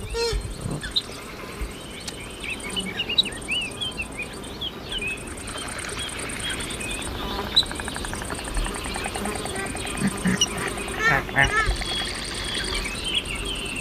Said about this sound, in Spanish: Bueno, aunque este parece cabreado, pero en realidad este calamón está cabreado porque está rodeado de insectos alrededor.